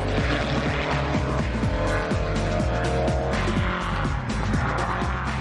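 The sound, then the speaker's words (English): A homemade car built from an old steel gate, a Jeep engine and Beetle panelling races around a racetrack, its engine loud and continuous, pitch climbing and dropping again and again as it revs through gears, with hints of tire squeal and no voices. “It's made from an old steel gate, a Jeep engine, and some Beetle panelling, but this car looks right at home on the racetrack.”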